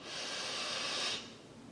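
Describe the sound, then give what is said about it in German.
A single deep, steady inhale through the nose as part of a guided breathing exercise, airy with a soft hiss, lasting about a second before tapering off. No one speaks. “Wir atmen tief durch die Nase ein, gemeinsam.”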